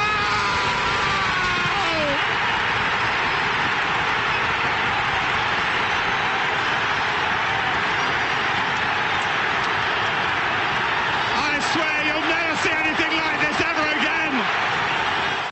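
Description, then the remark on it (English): A huge football stadium crowd roars after Sergio Aguero scores for Manchester City, a dense, unbroken wall of cheering and screaming that stays loud throughout, with higher shouts and whistles bursting through near the start and again later. “And again, let the crowd tell a bit of the story too before going again, unleashing in a Judd-like celebration for Sergio Aguero.”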